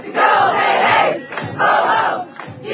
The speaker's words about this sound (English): So here's some of that footage. Screaming at a lady that's like grading papers coming out of her office.